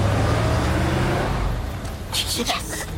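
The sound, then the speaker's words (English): A large bus engine idles with a deep, steady rumble, then a burst of hissing air and clatter near the end as it sits at a stop while children get off. “At their stop, the kids exit the bus.”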